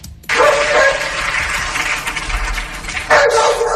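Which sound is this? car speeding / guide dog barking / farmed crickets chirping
guide dog barking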